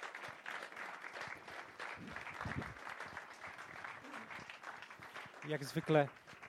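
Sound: audience applause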